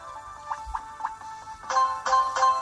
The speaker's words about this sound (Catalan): comença a donar voltes i surten les pokeballs i tu les comences a agafar amb un soroll